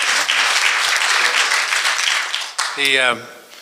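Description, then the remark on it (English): A crowd breaks into steady, dense applause for about two and a half seconds, then the clapping fades as a man's voice begins speaking over the last of it. “And I think you're owed an extra round of applause for your service to the country and the state on the commission.”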